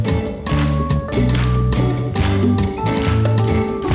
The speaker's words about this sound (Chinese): 我们一起来宣告好吗？一起来拍手来。